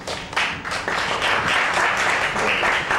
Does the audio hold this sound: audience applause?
yes